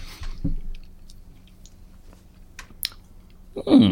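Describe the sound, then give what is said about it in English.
Someone chews a cracker with soft, irregular crunches and wet clicks over a low murmur, ending in a louder, rougher burst of chewing. “Not enough to eat the whole cracker.”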